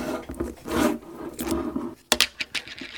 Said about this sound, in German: Also ich habe vor mir Knabbergebäck und Nutella und jetzt schraube ich das Nutella-Glas auf.